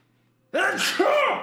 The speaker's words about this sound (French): Attends, je vais éternuer.